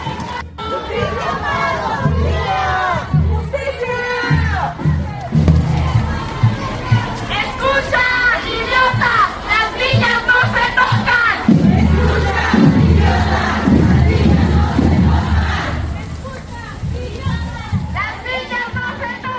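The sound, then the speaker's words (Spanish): A large crowd of women shouts and chants together at a protest march in Morelos, voices rising in loud, overlapping cries that swell and sustain for the whole stretch, with a dense babble underneath. “Así marcharon las mujeres en Morelos, y con alegría. Con una alegría que baila, grita, brinca, maldice.”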